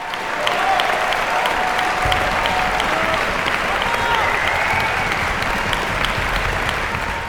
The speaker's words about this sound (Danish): Hvad er det, der får et ensemble til at brænde igennem på scenen og høste sådan et bifald?